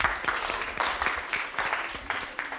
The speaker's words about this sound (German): Jawohl, Applaus.